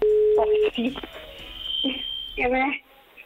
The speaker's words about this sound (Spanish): Bueno. Ahí estamos marcando.